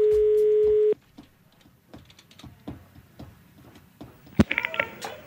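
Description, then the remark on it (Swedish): A steady telephone dial tone cuts off, followed by a series of soft clicks as a number is dialed to prank-call a woman, then a sharp click and a brief burst of ringing tone. No one speaks. “Och hon skulle då gå ur, och då ringde vi för att reta upp henne lite grann och låtsades vara därifrån.”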